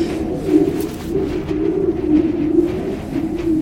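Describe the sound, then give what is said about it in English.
A steady, low groaning grind of an ice disk that formed on a lake, spun by a current and rubbing against surrounding ice, droning continuously with slight rhythmic surges and a hollow, almost cooing tone. No voices. “The grinding noise? It's an ice disk that formed on the lake.”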